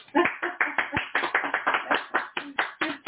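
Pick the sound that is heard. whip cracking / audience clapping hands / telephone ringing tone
audience clapping hands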